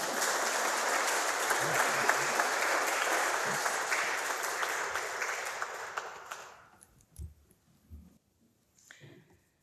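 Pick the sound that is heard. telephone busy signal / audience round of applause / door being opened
audience round of applause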